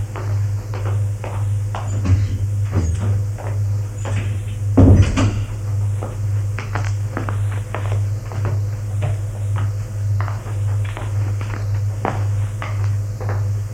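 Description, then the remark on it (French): Footsteps move around over a steady low hum, broken midway by a loud wooden clunk as a door swings open, followed by more shuffling steps and lighter knocks. A man opens the doors and enters the rooms. “Il ouvre les portes, entre dans les pièces.”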